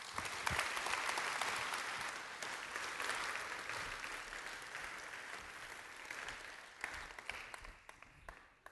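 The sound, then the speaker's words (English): An audience at Bethel Church breaks into steady applause thanking a speaker, a dense wash of many hands clapping that holds strong for several seconds, then thins out to a few scattered claps before fading. “let's thank him.”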